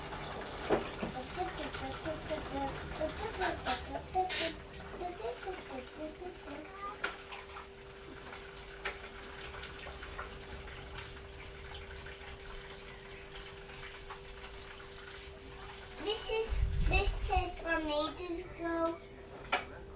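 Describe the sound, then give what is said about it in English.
Warm water runs steadily from a tap with a continuous hiss, while a voice and other small household sounds come and go over it, swelling briefly near the end. “Alright, let's get your warm water.”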